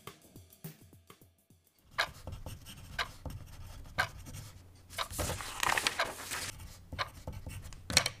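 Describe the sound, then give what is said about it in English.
Pencils scratch steadily across paper during a timed written test, in quick, uneven strokes, a soft rustling hiss with brief pauses and taps, starting quietly before a denser burst of scribbling. No one speaks. “Pencils down, papers forward.”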